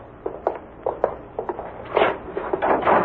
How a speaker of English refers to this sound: Here's where we get out. I opened the door.